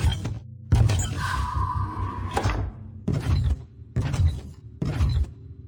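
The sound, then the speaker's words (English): A door creaks open in a long, drawn-out groan with a steady whining tone, followed by three shorter rough bursts of noise. No one speaks. “The door opened, so I left.”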